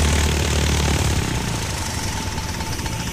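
The engine of a small yellow Cessna 150 airplane idles on the tarmac after landing on Molokai, a loud, steady rumbling drone with a rough chugging texture; the deepest rumble eases slightly after the first second while the engine keeps running.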